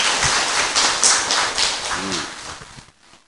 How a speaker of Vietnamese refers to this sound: Mong mời quý Phật tử cho một tràng pháo tay để tán thán.